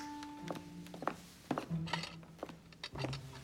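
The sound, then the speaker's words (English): Dirty dishes and cutlery on a tray clatter and clink together in a series of sharp knocks, irregular and fairly busy, as the tray is handed over and carried off to the kitchen. “Being handed a tray of dirty dishes, Frank grins grimly and he leaves with the tray.”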